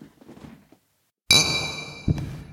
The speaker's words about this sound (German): Und das Bier ist auch angenehm kalt. Sehr schön. Also ich habe das Thema mit unserer aktuellen Medienpräsenz jetzt gerade schon mal so aufs Tablett gepackt, aber wir sollten erstmal anstoßen, ne?